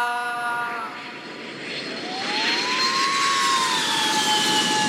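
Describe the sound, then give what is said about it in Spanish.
A small aircraft's engine drones loudly and steadily as the plane lands, its pitch sliding and bending as it moves by, over a broad rushing roar. No one speaks. “Los pilotos aterrizan, vamos a buscar esa.”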